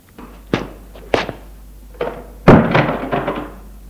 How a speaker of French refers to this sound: Il entre, Maxime ferme la porte.